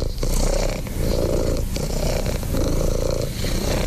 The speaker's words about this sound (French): Alors, on a trouvé ça sur Internet, sur YouTube. Détendez-vous avec Rookie, c'est une heure de ronronnement continu enregistré par Jean-Yves Gaucher. C'est un vétérinaire, qu'est-ce qu'il a inventé?